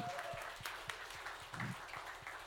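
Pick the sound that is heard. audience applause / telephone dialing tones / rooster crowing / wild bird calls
audience applause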